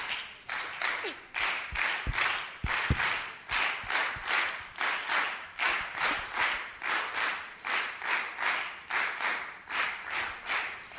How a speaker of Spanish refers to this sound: Así que, bueno, vamos a hacer palmas.